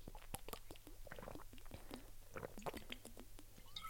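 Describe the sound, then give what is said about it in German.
A stomach rumbles, a run of low gurgles and squelchy bubbling pops that keep coming irregularly for a few seconds, quiet, with no talking. “Also ich muss sagen, ich habe nicht richtig Hunger, aber mein Magen knurrt sehr doll.”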